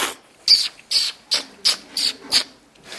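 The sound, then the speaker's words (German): A quick series of about seven loud, hissing slurps, each a short airy burst, repeating in a steady rhythm as coffee, taken from a cup with one spoon and poured into a second spoon, is sucked noisily from that second spoon, with no voices. “Mit einem Löffel wird der Kaffee dann aus der Tasse entnommen, in einen zweiten Löffel geschüttet und von dem getrunken, oder besser laut geschlürft.”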